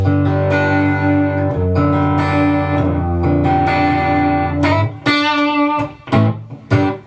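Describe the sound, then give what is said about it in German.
Distorted electric guitar through a high-gain 5150 amp profile with reverb and no pedal, holding thick ringing chords for several seconds, then a few shorter, choppy strums near the end. No voices. “Genau, es ist jetzt ein 5150-Profil hier gerade, was wir hören. Wo wir mehr Gain natürlich noch brauchen. Natürlich mit ein bisschen Hall drauf.”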